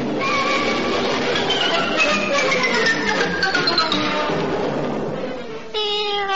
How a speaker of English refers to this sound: the creature who is the answer to your troubles, Dick Whittington's cat